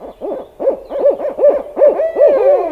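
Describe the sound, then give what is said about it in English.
A series of rapid, rising-and-falling owl hoots repeats in a steady rhythm, loud, with no voices present. “Some owls, including big birds like barred owls and great horned owls, live in the city.”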